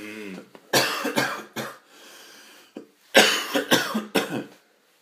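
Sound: coughing fit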